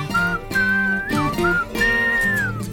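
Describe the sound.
A clear, bright whistled English tune plays over a steady instrumental backing, rising and gliding through three or four short phrases with brief pauses between them.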